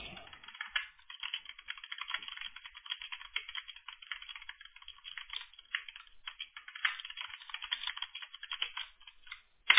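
Rapid, continuous keyboard typing with dense clicking keystrokes, fairly quiet, running steadily for about ten seconds with brief pauses and no voices, as a person types a message asking what keywords will be used.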